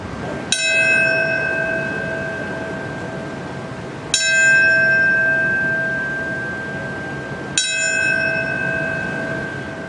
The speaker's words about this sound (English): We also don't, as a nation, stop to ring bells and read off the names of the dead from domestic mass shootings, or do enough to prevent such deaths.